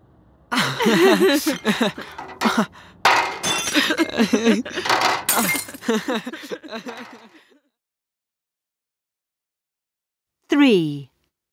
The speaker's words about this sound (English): I'm taking this bag of glass bottles and things to the recycling bin over there. Yes, at home we recycle glass. I love throwing the glass into the bin.